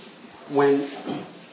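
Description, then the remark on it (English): A chair gives a single short squeak that rises in pitch and holds briefly, followed by a softer creak or rustle as it settles. No one speaks. “It sounds terrible on audio. I know. Sorry. The squeaking of the chair.”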